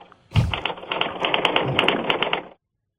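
Rapid, steady typing on a Smith Corona typewriter, a dense run of crisp mechanical key strikes lasting about two seconds, fairly loud, then silence. No talking.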